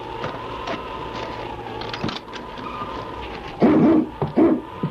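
Husky dogs, among them one named King, bark in a few loud bursts near the end, over a steady whistling tone and low background rumble.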